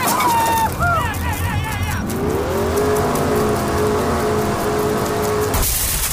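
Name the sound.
truck engine revving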